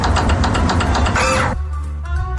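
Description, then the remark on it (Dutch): A motorcycle's ignition switching on as the ABS is checked: a loud, rapid buzzing rattle with a brief rising whine as the fuel pump joins in, which cuts off into a steady low electrical hum with faint tonal whirring. “Dit krijg ik te horen als ik het contact van mijn motor aanzet.”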